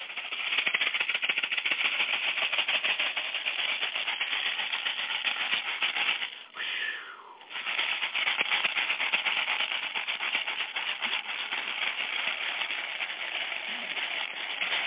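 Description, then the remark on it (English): A rattle is shaken for cleansing, continuously in a dense, sharp, hissing patter, loud and steady, with a brief pause partway through before the shaking resumes at full intensity. “Right now we're just doing some cleansing with the rattle.”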